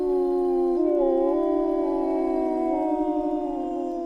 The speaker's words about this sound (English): Even though Lampe's been working at the zoo for 31 years, he still stops to listen every time the wolves are howling.